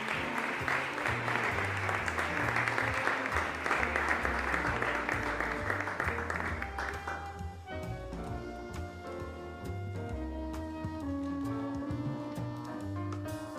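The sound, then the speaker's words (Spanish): An audience at a Christmas card prize ceremony claps steadily for a second-prize winner, a 13-year-old girl from Colegio Los Salesianos, in a dense, even wash for about seven seconds over background music; then the clapping fades and the melodic music carries on alone. “Aplauso para”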